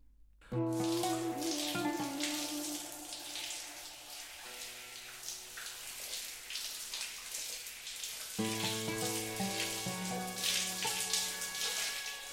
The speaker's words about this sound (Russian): Тугие струи бархатистой воды из душа приятно массировали и освежали кожу.